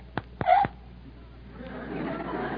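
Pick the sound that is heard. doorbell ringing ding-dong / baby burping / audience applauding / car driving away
baby burping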